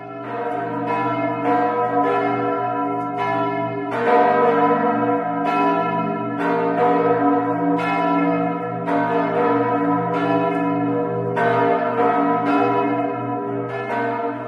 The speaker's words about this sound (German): Das ist ein herrlicher Sound, den ich immer wieder gerne höre. Und es sind die Glocken von St. Jakobi.